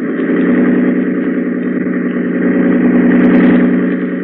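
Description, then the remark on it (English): A boat engine roars at high throttle, a loud, steady droning hum with a strong low tone that holds for several seconds with only slight swells, no voices over it. “Grady, hold tight to the wheel and open the engine up full.”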